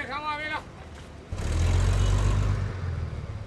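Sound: city bus ride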